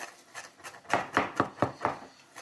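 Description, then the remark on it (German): A mezzaluna knife rocks and chops on a board, a quick steady run of about eight crisp strokes that start soft and grow louder, with no talking. “Also ich meine, so ein Wiegemesser ist ja auch nur ein glorifiziertes Messer.”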